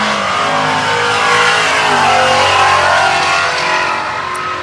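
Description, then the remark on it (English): A loud altered wheelbase car engine revs and roars, its throaty growl swelling and holding steady as it drives past on Woodward, with no talking over it. “We just watched an altered wheelbase car drive by on Woodward.”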